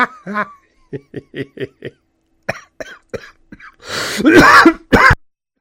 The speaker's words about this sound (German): So, da bin ich wieder. Hustanfall, was ist hier schon wieder los?